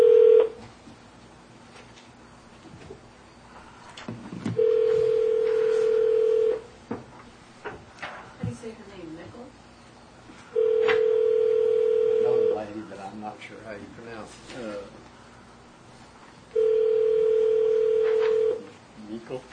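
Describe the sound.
Telephone line tones as a call is placed for a 1 o'clock telephone appeal with the Taney County Board of Equalization: a steady electronic tone sounds for about two seconds, repeating three times at regular intervals, with faint voices and room noise in the background.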